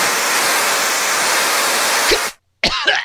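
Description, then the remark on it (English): A loud, steady hiss from one quick spray of a skunk-scented stink aerosol can, used inside a house, runs for about two seconds and cuts off abruptly; after a brief silence, a short cough-like vocal burst follows. “One quick spray infuses the air with the pungent scent of skunk, mixed hints of rotting flesh, ammonia, raw sewage, and Chipotle leftovers.”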